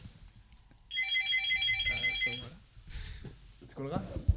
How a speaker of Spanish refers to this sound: A ver, un teléfono. Ahí va.